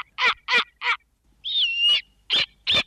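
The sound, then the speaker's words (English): A snowy owl gives harsh, screaming bark-like calls: three short raspy barks, a longer strained scream with a whistling tone, then two more barks, loud and with no voices. “Now, keep in mind that this owl is a little bit different”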